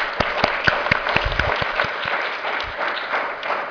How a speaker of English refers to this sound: Well, I want to thank each one of the panel members for the excellent presentations, and an applause for all of them.